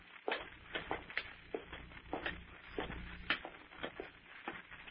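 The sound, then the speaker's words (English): Footsteps climb a wooden staircase, a steady series of hollow thumps and scuffs. Two people, one of them blindfolded, tread slightly out of step going upstairs, with no talking. “Well, I'll follow you, then. Up these stairs.”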